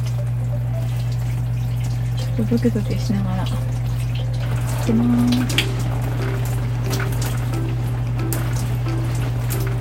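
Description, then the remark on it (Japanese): A thin stream of hot shower water trickles and patters, with scattered splashy drips over a steady low hum, as a person washes their hair; the person speaks briefly over it. “まあ、あの普通のシャワーと違ってちょろちょろと出してる感じかな。”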